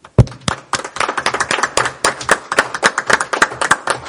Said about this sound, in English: So, and I think that that's very true of our employees, and so not to be cheesy here, but I think we should give our city employees a round of applause.